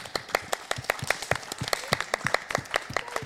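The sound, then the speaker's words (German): An audience applauds the Jugendruckkreuz Hinte with crisp, overlapping hand claps in a quick, steady patter, moderately loud and sustained, with no voices over it. “Ja, dann würde ich sagen, machen wir nochmal einen riesen Applaus für das Jugendruckkreuz Hinte.”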